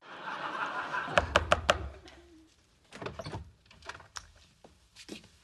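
knocking on a door

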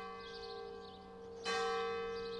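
church bells ringing

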